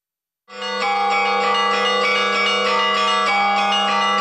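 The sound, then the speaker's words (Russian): Church bells of a newly consecrated church of St Irene peal over the settlement of Sanatorny in the Middle Urals, Russia, continuously after a brief silence, several bells ringing together with rich sustained overtones and a steady, loud, layered clang throughout, no voices present. “Над Санаторным раздается колокольный звон.”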